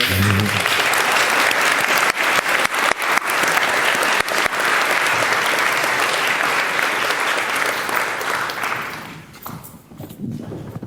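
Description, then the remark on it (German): A crowd applauds loudly and steadily for several seconds at the closing of the Infrastructure Review, a dense wash of clapping with a few sharper claps standing out, then it fades and thins out toward the end. “Danke für den Applaus.”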